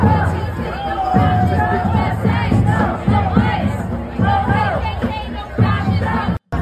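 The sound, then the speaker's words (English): A massive crowd in Arkansas roars continuously, many voices shouting and cheering together in loud, rising and falling surges, with a brief cut in the sound just before the end. “That is a pretty massive crowd.”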